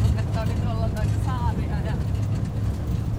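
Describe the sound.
A snowmobile engine drones steadily, a loud, continuous low rumble that never lets up, as it carries riders to a cabin on an island, with faint voices briefly audible over the motor.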